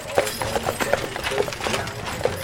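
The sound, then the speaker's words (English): Horse hooves clop in a steady, brisk rhythm as a horse-drawn stagecoach rolls past on a street in Tombstone, each strike sharp over a busy outdoor street background. “Horse-drawn stage coaches pass by constantly.”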